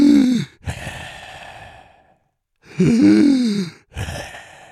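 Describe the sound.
A voice mimics a person breathing heavily at a restaurant table: two loud, groaning inhales each followed by a raspy, noisy exhale, exaggerated, with a short silent pause between the pairs.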